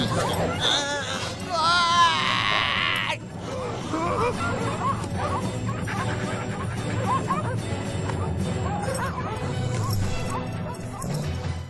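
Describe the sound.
Several dogs bark and yip excitedly, loudest in a burst of high yelps near the start, then keep barking amid a busy, cluttered commotion with background voices.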